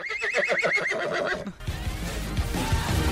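horse neighing sound effect

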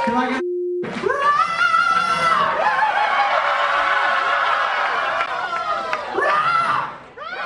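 bar crowd cheering

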